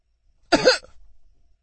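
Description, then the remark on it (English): A single short, raspy cough from someone in a silent crowd breaks an otherwise hushed quiet; the silence returns right after. “Silence. Well, until someone coughed.”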